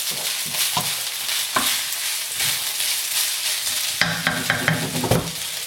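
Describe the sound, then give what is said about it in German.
An egg sizzles steadily in a hot pan, a dense crackling hiss broken by a few sharper pops and scraping clicks, with a busier burst of clatter near the end. No one speaks. “So, nebenbei das Ei noch ran”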